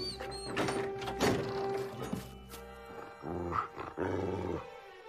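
A dog growls in low, rough bursts, heard from a distance in a dark garden, fairly loud, with a deeper snarling rumble swelling again toward the end and no one speaking.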